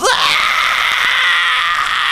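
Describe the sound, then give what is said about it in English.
A single piercing, blood-curdling scream rises sharply and then holds at a shrill, steady pitch for about two seconds, loud, with no talking around it, heard very late at night through open windows at a Bible college. “The windows were all open, and one night, very late, still two-thirds of the lights are still on, way into the wee hours, you hear this blood-curdling scream.”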